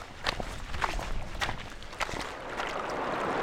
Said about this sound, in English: All that water flows through streams and into a reservoir before some of it ends up here in the Blue River, which flows away from the mountains and into the Colorado.